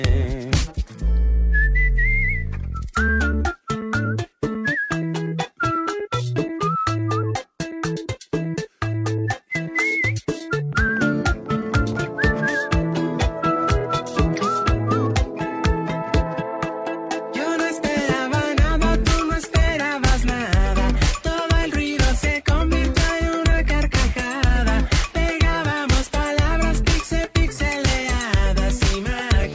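A song plays loud and steady throughout, opening with a whistled melody over sparse chords before a driving beat and fuller instrumentation kick in; no one talks over it.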